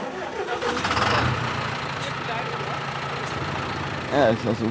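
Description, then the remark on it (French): A green tractor engine turns over and settles into a steady, low rumbling idle, with a brief burst of voices near the end. “Oh, il est beau ce tracteur.”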